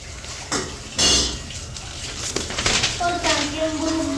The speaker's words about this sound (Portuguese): Aqui, ó, tá caindo. Tem água. Tá caindo água. Tá correndo água. Correndo água. Tá correndo água. Tá correndo água.